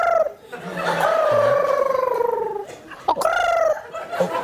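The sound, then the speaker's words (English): A voice makes a rolled-R trill with a warbling, meow-like rise and fall, resembling a cat crossed with a cooing pigeon, repeated twice, fairly loud with no other talk. “It's almost like a cat's meowing. It's like a pigeon. A pigeon and a cat.”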